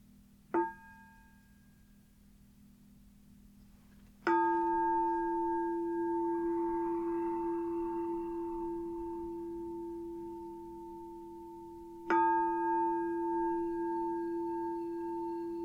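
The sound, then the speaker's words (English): A meditation bell is struck three times as the settling-in introduction to a meditation: a soft, brief first tap, then two full, ringing strikes several seconds apart, each sustaining a steady, pure tone over a low hum. “So if you want to find a comfortable position, I'll start with three sounds of the bell, the usual settling in introduction, and then we can begin.”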